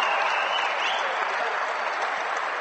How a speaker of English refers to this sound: Has gotten the Fort Laramie crowd riled up, saluting the Redskin players, recognizing them for earning the district title And Fort Loramie people behind us are on their feet.